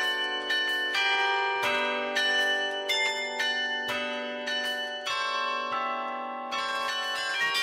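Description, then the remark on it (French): Carillon bells in Provence, France ring out a melody, one struck note after another at a steady pace, each tone lingering and overlapping the next in a full, resonant wash. No voices are heard. “Quel type de morceaux vous jouez au carillon?”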